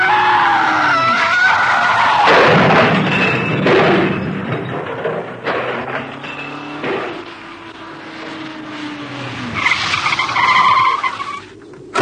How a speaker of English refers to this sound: the driver of the car with Jean inside it must have swerved to avoid it. The road was too narrow, and over he went.